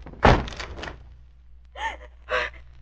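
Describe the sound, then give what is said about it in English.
A door is forced open with a heavy thud and a brief scraping rattle, then quiet before two short, breathy gasps follow. “Try to force the door open quickly.”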